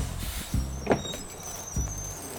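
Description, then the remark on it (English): A tour bus idles with a low engine rumble while a few short mechanical thumps and a brief hissing clunk come as it pulls up at the red light district and its door slides open, no voices present. “Yo, driver, is that the red light district there? Yeah, it sure is. Stop the bus, man!”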